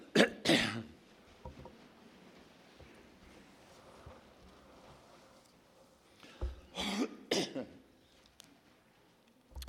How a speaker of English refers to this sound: By the way, just going to say this, but one of the reasons that I have to clear my throat is because I have acid reflux, and it just burns my throat sometimes and clogs it up.